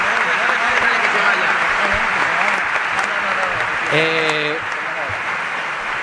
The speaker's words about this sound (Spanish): Un aplauso.